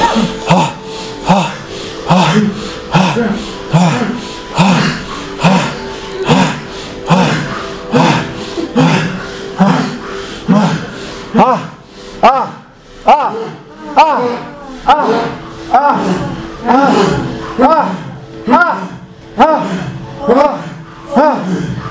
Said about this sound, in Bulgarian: А сега премини пак на бастрика дишане. Гръдно дишане. Гърдите се надуват и свиват.